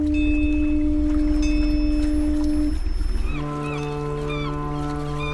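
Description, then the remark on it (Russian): A loud, sustained lighthouse foghorn blast drones steadily, then gives way to a deeper second tone. Faint chirping, like gulls, drifts over the low blare. “Многие маяки оснащались звуковыми сигналами – туманными сиренами, колоколами или гудками.”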